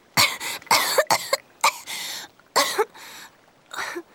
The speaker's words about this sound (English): At last, Joey coughed and opened her eyes.